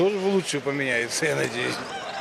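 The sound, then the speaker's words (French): Several chickens in cages at the Chorsu bazaar, the largest in Tashkent, cluck and squawk in a steady, overlapping series of calls, with a busy background murmur that may include voices. “À l'approche du bazar de Chorsou, le plus vaste de Tachkent, il faut se frayer un chemin entre les cages à poules, les étals d'épices multicolores et les vendeurs de sandales et de t-shirts importés de Chine.”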